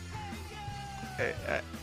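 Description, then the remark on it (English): Upbeat ska music plays with a steady bouncing groove, then two short group shouts of "hey you" burst out close together near the end, loud and punchy over the band. “Like, it's this fun, wacky ska music that just doesn't really scream badass, does it,”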